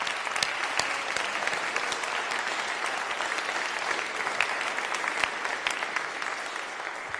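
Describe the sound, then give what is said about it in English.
An audience claps steadily for several seconds as a special round of applause for Tommy McKierney, a dense rattle of many hands with sharp individual claps popping out, holding an even loudness throughout with no talking over it. “So I would like a special round of applause for Tommy McKierney, please.”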